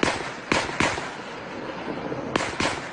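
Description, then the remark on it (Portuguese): Gunfire during a police operation in the Complexo do Salgueiro, São Gonçalo, in Rio's metropolitan region: about five sharp, sudden cracks in two loose clusters, a pair or trio early and another pair near the end, each standing out loudly above a steady background hiss. “No meio do fogo cruzado, os moradores.”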